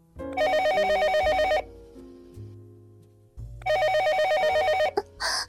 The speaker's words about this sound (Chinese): 哥哥，副董，您的电话响了，快别操逼了，工作要紧呢。